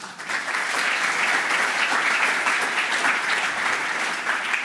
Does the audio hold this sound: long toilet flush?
no